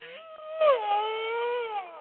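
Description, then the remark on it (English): A cow crying: one long, strained, moaning wail that rises, dips sharply, then holds a steady, fairly high pitch for about two seconds, loud and alone with no talking. “Well, that was a cow crying.”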